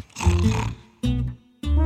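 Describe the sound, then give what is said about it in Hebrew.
A big cat, a leopard, roars in three loud growling bursts: a long rumbling roar, then two shorter ones, the last cut off at the end. “בטוח שאם אשאג ואכעס, הפיל יתעורר וילך כי נמאס.”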